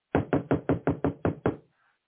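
knocking on a door

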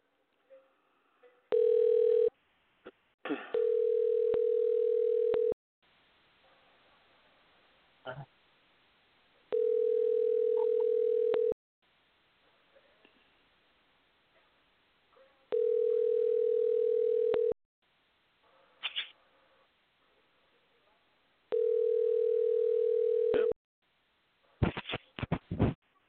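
phone call ringing tone

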